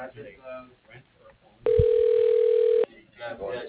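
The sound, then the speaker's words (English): A single loud, steady telephone ringback tone of about a second, a flat mid-pitched buzz, comes over a phone line as a call to an office is transferred after an automated message, between stretches of muffled talking. “And now it's ringing again.”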